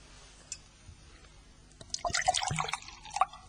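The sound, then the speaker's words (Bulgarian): After a near-silent pause, water is poured into a glass, a bright burbling splash lasting about a second and a half before trailing off. No one speaks. “Може ли чаша вода?”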